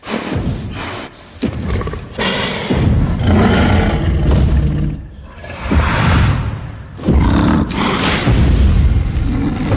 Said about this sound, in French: Voilà ce grognement féroce que vous entendez. C'est évidemment un extrait des films de la franchise Jurassic Park, initié en 93 par Steven Spielberg